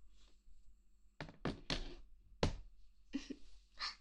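A mobile phone is tossed aside onto a surface, landing with a few dull thunks and a brief clatter in quick succession, then some softer rustling handling noise.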